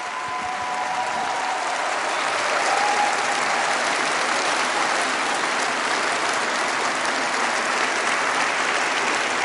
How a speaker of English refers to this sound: A round of applause from the audience as he makes a joke that he was a Jeremy Corbyn era member of the party.